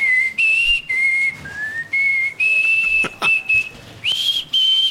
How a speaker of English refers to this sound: Do you ever whistle around the house at all